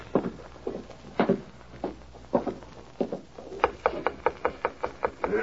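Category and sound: household object, knocking on a door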